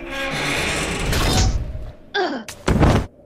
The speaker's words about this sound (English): Seizing the last of my strength, I ripped the radiator from the wall and slammed it into Hermie.